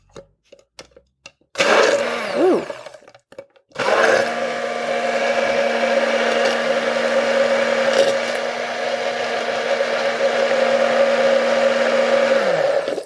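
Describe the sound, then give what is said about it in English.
An immersion blender whirs loudly as it blends an orange vinaigrette dressing made with vinegar and salt. It starts with a short burst, pauses briefly, then runs steadily for about nine seconds with a sustained motor hum before cutting off. “I'm just gonna use an immersion blender.”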